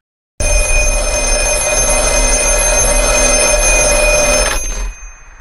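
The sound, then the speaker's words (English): A telephone with no cord plugged into anything rings loudly and continuously for about four seconds, a bright metallic jangle that starts abruptly and cuts off, leaving a brief fading tail. “Remember the earlier scene, there is no cord for the phone plugged into anything, so it's not your average phone call.”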